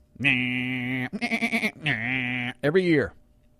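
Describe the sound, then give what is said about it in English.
A sheep bleats loudly, four drawn-out calls in a row, one with a wavering, stuttering quality, with no other sounds around it. “I meant to get a sound effect of sheep being sheared.”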